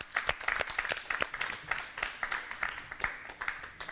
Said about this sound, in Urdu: پھر بھی ان کی حوصلہ افزائی کے لیے زوردار تالیاں.